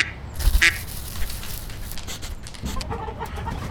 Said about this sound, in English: He meets ducks. Do you say meow? No, we don't. We are ducks. We say quack, quack.